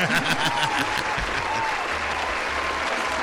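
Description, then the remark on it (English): A crowd claps and applauds steadily for Jeff 'Swampy' Marsh, a dense, continuous patter of many hands that stays loud throughout, with some low murmuring underneath. “Yeah, ease up, crowd.”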